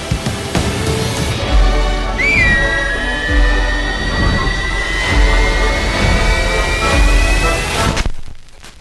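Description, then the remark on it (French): A long sustained whistled tone glides in and holds steady for several seconds over a dense music bed with low rhythmic thumps, ending abruptly, from the trailer for Corneliu Porumboiu's film The Whistlers (Les Siffleurs). “Voilà pour la bande-annonce des Siffleurs de Corneliu Porumboiu qui est sortie tout juste aujourd'hui et qui va forcément vous donner envie de siffler.”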